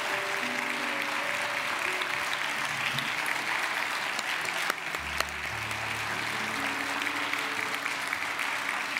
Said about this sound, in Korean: 다시 한번 우리 온사랑 합창단 큰 박수로 축복합니다.